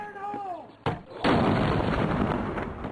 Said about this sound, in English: The soldiers detonate the IED.